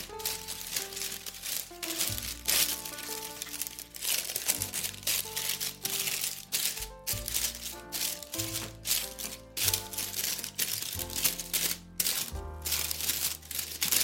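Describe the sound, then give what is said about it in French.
Parchment paper crinkles and rustles continuously as it is pressed into a cake tin up to the top of its sides and folded into small pleats to hold it against the edges, with soft background music playing underneath. “Cette feuille de papier sulfurisé, je vais venir l'enfoncer dans mon moule, en sachant que la feuille doit bien aller jusqu'en haut du moule, jusqu'en haut des bords, pour bien accueillir et retenir l'appareil à gâteau.”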